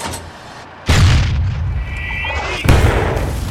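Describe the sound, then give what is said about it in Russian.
Two loud German anti-tank cannon shots fired at a tank, about two seconds apart, each a sharp heavy blast trailing into a long rumble, with a thin whining tone between them. “Feuer frei auf den Panzer!”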